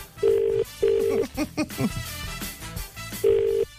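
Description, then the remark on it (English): A phone line's ringback tone while calling a restaurant in Smithfield, Dublin: steady double-pulse rings, loud, repeating over a call line, with a brief murmur of voice between the rings. “It's ringing again.”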